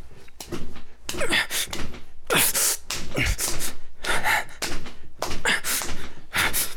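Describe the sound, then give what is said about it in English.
Someone gasps for air in ragged, repeated, strained breaths, with dull thuds and bumps mixed in as if in a struggle. No words are spoken. “Can't talk when you're too busy gasping for air.”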